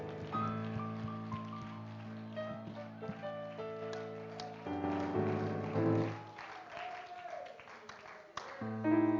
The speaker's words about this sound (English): One more time, can we give the Lord a hand clap of praise? Oh, can you clap your hands with everything within you? Hallelujah! Lord, I love You!